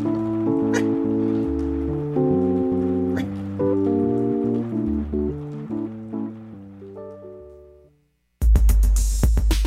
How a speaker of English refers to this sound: Whew, that was a scary storm. Yeah. Just raining now, nothing wrong with that.